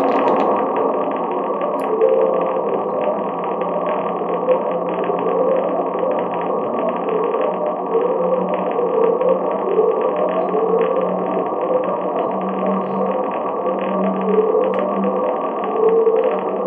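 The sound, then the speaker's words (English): A low, droning underwater recording from the Pacific Ocean, known as the upsweep, with repeated rising tones sweeping upward in pitch, layered over a steady hiss and rumble, with no voices. “So this is the upsweep. This is known as. Okay. These are all recorded in the Pacific Ocean.”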